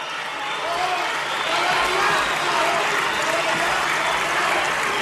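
A large crowd reacts loudly to the former president of the Parliament with a mix of booing and cheering over dense, steady applause, the noise swelling slightly and holding without a break throughout.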